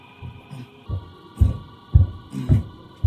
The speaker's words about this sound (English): walking past the door. There you go. Like that.